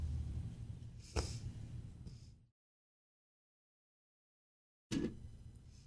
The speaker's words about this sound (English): I'm getting over a cold, by the way. That's why I'm coughing so much. I apologize. It's not COVID.